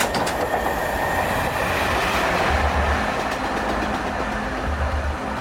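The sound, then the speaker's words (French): A regional SNCF train rolls along the rails with a steady, dense rumble and faint clickety-clack, loud throughout with no voices. “Bref, l'URE continue de vivre bien sûr, mais au ralenti, comme sa gare SNCF, concurrencée depuis 10 ans par le TGV. 5 trains le matin, 5 le soir, et entre les deux, il faut attendre.”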